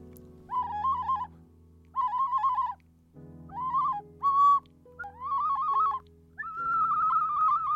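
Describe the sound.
An ocarina plays an imitation of a barnacle goose call: six breathy, wavering hoots at a fairly high pitch, separated by short pauses, with one brief higher blip and a longer final note, over a low steady hum.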